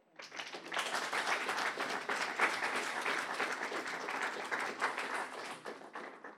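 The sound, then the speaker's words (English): A church audience claps for Jesus together in sustained, dense applause, many hands overlapping into a steady roar that starts quickly and holds at an even level throughout. “Come and clap for Jesus, for his goodness.”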